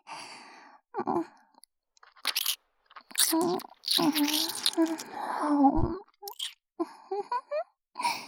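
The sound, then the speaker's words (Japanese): Intimate mouth sounds of a girl munching and nibbling on a young man's ear, with wet crunchy bursts and soft breathy sighs in irregular clusters, fairly quiet. “お耳もぐもぐしちゃった。”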